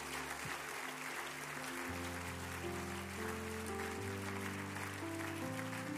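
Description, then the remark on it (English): An audience claps their hands together in a steady, dense wash of applause over sustained organ chords, lasting throughout without any voices. “And if you believe the Lord is going to help us today, why don't you put your hands together with a hand clap.”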